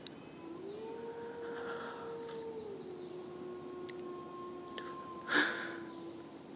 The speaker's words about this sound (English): I think I hear howling.